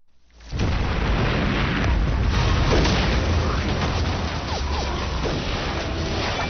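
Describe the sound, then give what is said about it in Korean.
A loud, sustained barrage of explosions and booming blasts roars continuously, with scattered sharp gunfire cracks layered over a dense rumbling battle din, from a Korean War battle scene in the Chinese TV drama 38th Parallel, with a surprise attack on South Korean troops and Chinese soldiers charging. “귀를 울리는 폭음과 총성이 연이어 들립니다.”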